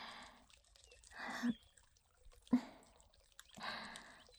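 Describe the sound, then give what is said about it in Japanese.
Wet squelching of soapy lather and water comes in several soft bursts separated by short pauses, with faint dripping between them and no talking. “おまんこでつりつり、くちゅくちゅ、ぬるぬるって洗ってるけど、私の愛液と君のカウパーと泡でぐちゃぐちゃだね。”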